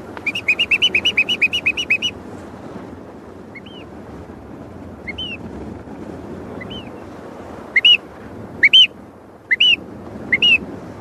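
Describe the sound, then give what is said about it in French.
A quick run of high chirps opens, then scattered answering calls from several birds of a flock come at intervals as they signal to each other that the group is there, growing louder near the end, over a steady rushing background noise. “Dès qu'un émet un son, les autres disent « la troupe est là ».”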